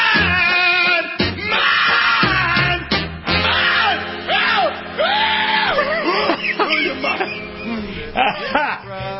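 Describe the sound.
A played song recording with a man's voice screaming and wailing the vocals over music, with strained, rising and falling cries throughout and a dense, loud, continuous backing.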